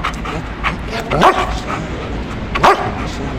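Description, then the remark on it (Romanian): A police dog of the Capital Police canine service, with its handler, lets out two loud, sharp barks about a second and a half apart during a demonstration for children, over a steady murmur of background noise. The dog is trained to find offenders. “Este componenta serviciului poliție canină, este împreună cu conductorul lui, este un câine care își desfășoară activitatea de câțiva ani în Poliția Capitale și este destinat descoperirii infractorilor.”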